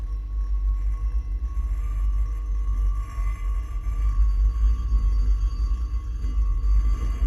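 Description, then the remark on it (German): A steady, loud rattling noise over a heavy low rumble, heard early in the morning as dawn broke, continuing unbroken for several seconds with a faint sustained whine on top and no voices. “Und dieses Geräusch, dieses Rasseln?”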